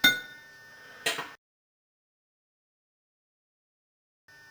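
A fork is thrown into a glass container of microwave-heated water with a little oil on top, giving a bright, ringing metallic clink, followed a second later by a second clink, then silence. Fairly loud, with no talking.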